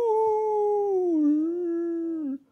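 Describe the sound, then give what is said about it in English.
A person's voice imitates a wolf howl in a story: one long, loud, wavering note that dips slightly in pitch and holds steady for about two seconds before cutting off, with no other sounds. “Howl! Little Good Wolf howled back, called back, following the sound, until he could see the lights of their house through the trees.”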